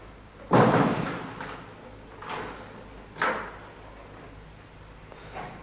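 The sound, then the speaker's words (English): A heavy cell door bangs shut with a loud clank as a jailer locks it behind boys in a jail, followed by several softer, irregular metallic knocks as the lock is worked. No voices. “They jog into a room, the jailer locking the door behind them.”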